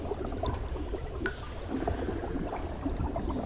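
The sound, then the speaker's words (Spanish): Steady liquid bubbling with a dense stream of small pops and gurgles, moderately loud, continuing evenly for a few seconds with no voices. “Asco de vida y venga de burbujas.”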